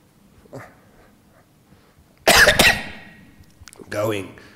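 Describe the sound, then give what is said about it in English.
A sharp, loud cough bursts out, a quick double hack that fades, followed moments later by a rough throat-clearing rasp against a quiet, faintly noisy background. “And don't worry about the cough.”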